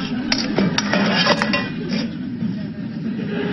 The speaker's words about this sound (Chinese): 第七季的第十二集 ，Chandler 呢在厨房里弄出了声响，是把那个锅呢弄洒了一地。